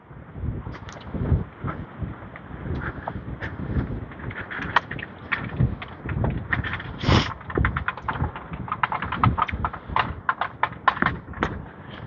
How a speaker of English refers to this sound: Somebody's recyclables rolling down the street.